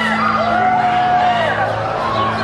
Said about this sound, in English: The crowd surge on the street to watch the car leave.